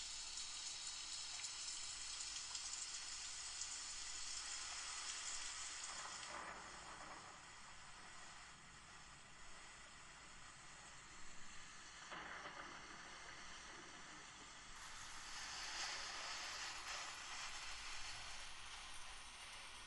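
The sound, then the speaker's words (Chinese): Steady, dense sudden rain pours down throughout, a full hiss of drops that eases slightly in the middle before swelling again toward the end. No voices are heard. “这个鬼天气，怎么说下雨就下雨啊？”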